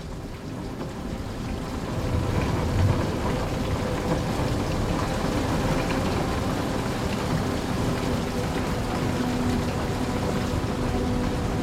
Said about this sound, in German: Du hörst den Geräuschen des Regens zu und lässt dich von ihnen in einen tiefen, erholsamen Schlaf begleiten.